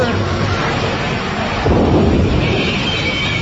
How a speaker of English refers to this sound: Crawl away from the lightning.